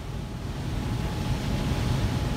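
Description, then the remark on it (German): Huge turbines of a dam that serves as a hydroelectric power plant, with a reservoir of many square kilometres, give off a steady, heavy roar, deep and rumbling with a broad hiss on top, holding an even loudness throughout with no voices. “Die gewaltigen Turbinen, die man hier rauschen hört, gehören zu einem Staudamm, der als Wasserkraftwerk dient.”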